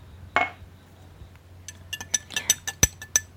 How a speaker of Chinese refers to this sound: 今天呢是老爸的生日，咱们一起喝一杯，祝老爸寿比南山，福如东海。好，来，干杯。